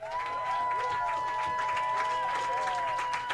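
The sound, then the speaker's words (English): An audience at a roast battle comedy show claps steadily with cheers and a sustained whistle riding on top, the noise staying dense and loud for the whole few seconds with no pauses, clapping to vote for Comedy Central Roast Battle champion Mike Lawrence as winner. “If you think Comedy Central Roast Battle champion Mike Lawrence is your winner, clap your hands.”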